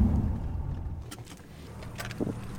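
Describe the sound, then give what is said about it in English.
A car's low engine rumble winds down as the vehicle pulls in off the road beside crop fields and comes to a stop near a charter school, followed by a few light clicks and a faint jangle of keys. No one speaks. “We get out of the car near the MOT Charter School”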